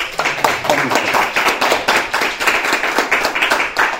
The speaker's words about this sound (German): Und vielleicht schon mal einen Applaus im Voraus.